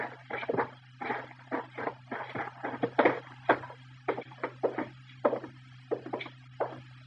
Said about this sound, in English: All right, come on. We'll walk right in the front door.